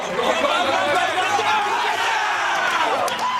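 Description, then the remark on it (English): A group of men watching the big game cheer and shout together in a 2016 Totino's Pizza Rolls Super Bowl ad, a dense, loud wall of overlapping voices that stays at the same rowdy pitch for the full few seconds. “My husband and his friends love to watch the big game, but all their cheering and shouting can make them pretty hungry.”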